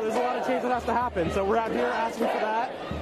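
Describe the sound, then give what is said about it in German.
In Washington, D.C., a crowd of protesters shout over one another at a participant tearing down a street sign, loud and agitated, with several people yelling at once in a continuous, heated outburst. “In Washington D.C. regen sich Demonstranten über einen Teilnehmer auf, der ein Straßenschild runterreißt.”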